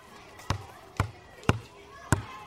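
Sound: ball bouncing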